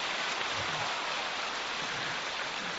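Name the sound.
audience applause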